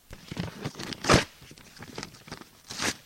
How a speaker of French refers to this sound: Vincent déchire un bout de nappe en papier.